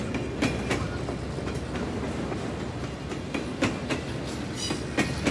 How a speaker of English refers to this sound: So Rosa Mary Dean rode the train onto Franklin.